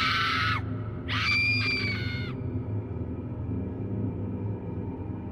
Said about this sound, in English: I began to scream.